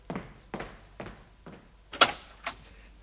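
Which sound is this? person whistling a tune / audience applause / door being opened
door being opened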